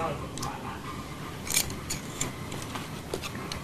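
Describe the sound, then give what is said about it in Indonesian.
Scissors snip in a string of sharp, crisp clicks at irregular intervals, with faint voices murmuring in the background. “Ini gunting buat apa? Oh ya, guntingnya lepas ya kali ya.”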